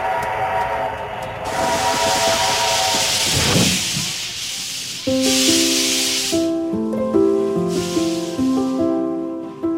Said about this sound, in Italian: Questo rumore è un treno.